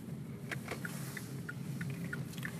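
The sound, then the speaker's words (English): A steady, low engine rumble and road drone from a car driving out of town, with faint short high-pitched ticks popping up now and then over the noise. No one speaks. “I'm driving out of town.”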